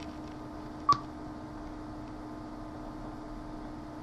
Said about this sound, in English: You hear the beeps going in higher pitch.